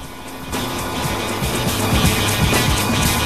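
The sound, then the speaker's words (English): A helicopter hovers overhead, its steady engine roar layered with a rapid, rhythmic low thudding of rotor blades that holds constant throughout, with no voices. “Scorpio takes aim as the chopper hovers directly overhead.”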